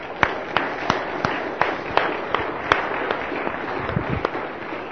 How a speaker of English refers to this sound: The worship band, let's give them a round of applause.